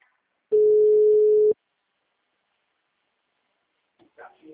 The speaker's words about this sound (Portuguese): Mensagem gratuita de telefone ocupado. Aguarde alguns minutos para voltar a ligar.